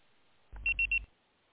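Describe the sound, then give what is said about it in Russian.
Three quick, evenly spaced high electronic beeps of a voicemail box, signalling to leave a message after a call to a busy line was forwarded to voicemail, sound over a brief low hum on a phone line. No one speaks. “Можете оставить сообщение после сигнала.”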